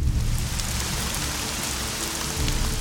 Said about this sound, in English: Soon, it starts to rain.